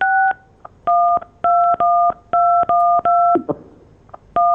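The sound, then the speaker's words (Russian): A telephone number being dialed to call someone back and restore the connection: a quick series of about ten touch-tone beeps, each a steady two-note electronic tone, spaced in an uneven rhythm with brief gaps and no talking. “сейчас перезвоним вам.”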